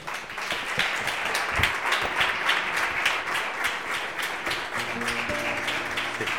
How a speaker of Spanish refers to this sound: Vamos a recibirlo con este aplauso.